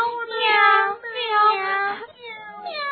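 A voice imitates a mother cat's meowing in a children's story, repeating drawn-out, wavering meows, fairly loud, one after another with only brief breaks between them.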